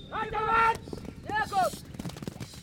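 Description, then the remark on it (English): An excited crowd at a morning horse race, with two boys racing around the field, two loud rising whoops and shouts standing out over a steady murmur of voices and clattering noise. “And you can hear the crowd getting excited.”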